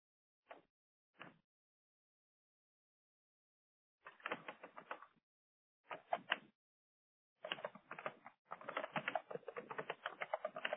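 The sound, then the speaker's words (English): Bursts of rapid computer keyboard typing, starting with two brief isolated taps, then several clusters of quick clicking that grow longer and denser toward the end, clear with no talking. “You're typing.”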